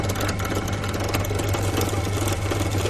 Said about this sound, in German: Und schon greift er und ich bin durch. Das war das Bohren von Kunststoff.